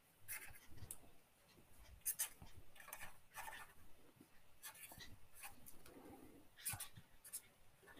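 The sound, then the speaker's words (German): A pen draws squiggles on paper for a bird-drawing exercise in short, irregular scratchy bursts, fairly quiet, with brief pauses between strokes and no one talking. “Ja, und wer es jetzt nicht sieht, wer es im Podcast hört, wir haben so wirklich Kringel gemalt, könnt ihr mitmachen.”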